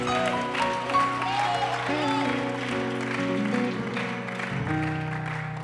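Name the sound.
audience clapping hands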